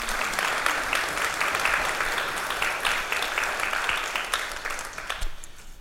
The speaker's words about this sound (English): I think they deserve a round of applause again.